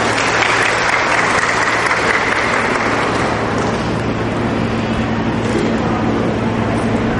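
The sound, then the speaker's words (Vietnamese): An audience in a church applauds steadily during a year-end Mass, welcoming young people up to the front; dense clapping from many hands at a loud, even level for several seconds, with a faint low hum beneath and no voices standing out. “Rồi chúng ta cho một tràng pháo tay, mời các bạn ấy lên.”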